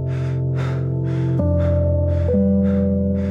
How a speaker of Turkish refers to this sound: Koşarak büroya girdim. Nefes nefese kalmıştım.